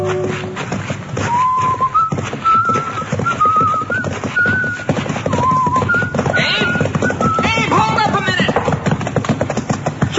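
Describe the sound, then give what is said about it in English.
A horse clip-clops along at a steady pace while being led, carrying surveying instruments, its hoofbeats fairly loud against a busy outdoor backdrop where birds chirp and whistle intermittently. “Well, you're leading my horse, carrying my surveying instruments?”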